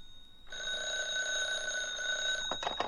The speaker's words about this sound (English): When I got back to my place on Taft, the phone was ringing.